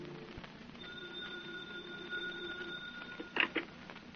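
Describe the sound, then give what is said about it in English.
A telephone rings in one steady, sustained peal lasting a couple of seconds over a low background hiss, followed by a brief clattering knock near the end. No one speaks. “Suddenly, the phone bell rings.”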